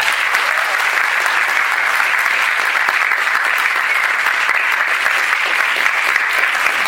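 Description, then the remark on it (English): A sustained burst of audience applause for comic artist Russ Heath, dense and steady clapping that fills the space evenly for several seconds without pause, fairly loud. “And ladies and gentlemen, I ask you to give a round of applause for Mr.”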